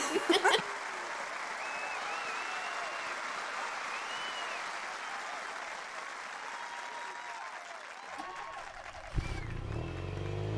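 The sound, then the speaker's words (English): A crowd claps steadily in a sustained, dense round of applause for about eight seconds, then it fades and a low rumbling hum takes over near the end. “deserve a big round of applause.”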